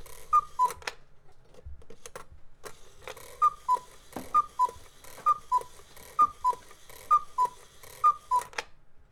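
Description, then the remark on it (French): Swiss cuckoo clocks ticking away, crisp clicks overlapping with a steady run of paired high-then-low cuckoo notes repeating roughly once a second, fairly loud, with no voices. “Ça c'est des coucous suisses.”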